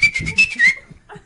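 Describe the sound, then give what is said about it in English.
A person whistles a short, steady high note that slides slightly upward near its end, lasting under a second, over some rustling background noise. “Stop whistling.”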